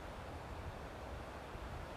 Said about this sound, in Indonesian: Sambil menjemin mata, di kuping cuman ada suara sepoi-sepoi angin.